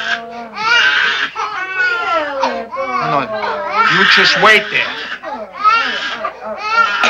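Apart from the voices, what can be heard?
baby crying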